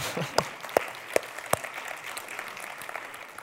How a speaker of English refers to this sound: Can I get an amen? Amen. We can clap for that.